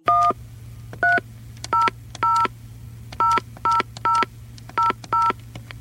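A telephone keypad dials a number: about nine short dual-tone beeps in an uneven rhythm, clear, over a steady low electrical hum, with no voices.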